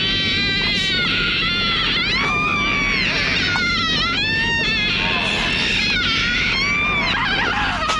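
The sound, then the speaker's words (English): A long, sustained moaning scream wavers in pitch without a break, loud and close, over a steady low rumble of background noise. “But this movie wanted to have the longest moan scream that it could ever create in the world, and here it is.”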